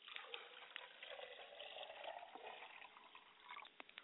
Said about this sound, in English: Father, I pour a glass of water in behalf of your spirit. Mother, I pour a glass of water to quench your thirst also, so that you are endowed with energy to find your way back home.